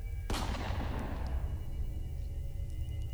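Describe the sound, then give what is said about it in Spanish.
A single loud gunshot cracks sharply, then rings out in a long, echoing decay over a steady low rumble. No voices are heard. “Algunos de esos corrieron con la peor suerte, y es que al abrir la puerta se encontraron con un disparo en la frente.”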